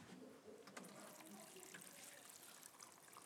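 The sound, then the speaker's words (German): Water pours down steadily from above, a continuous splashing and gurgling stream that stays fairly loud for a few seconds without a break. “So, jetzt kommt Wasser von oben.”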